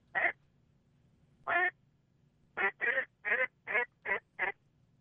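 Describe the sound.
A duck call imitates a powerful hen's hook call, or suicide call, with loud, nasal quacks: two spaced single quacks, then a quick run of six, clear over a faint low hum, with no talking.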